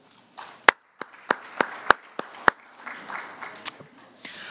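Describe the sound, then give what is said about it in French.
Brief applause from a small group of committee members electing a special rapporteur by acclamation: a few sharp, loud claps stand out at a steady beat over a softer patter of scattered clapping that fades by the end. “May I invite the committee to elect her by acclamation also?”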